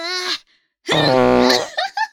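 A loud, buzzy fart with a low, rasping tone that lasts about a second, preceded by a short higher-pitched squeak and trailing off in a few brief sputters.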